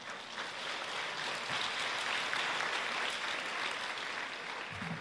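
A church audience applauds steadily for about five seconds after a sermon on the Beatitudes, a dense wash of many hands clapping at an even, moderate loudness with no talking over it.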